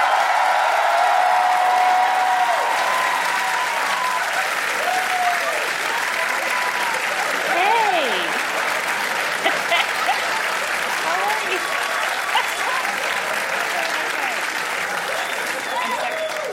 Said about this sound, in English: And thank you guys all for coming out. Thank you guys. Thanks. I've pimped you into an unnecessary applause.